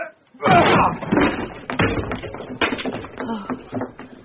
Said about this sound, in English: The door looks pretty solid to me, but the two of us ought to be able to manage it. Again. And again.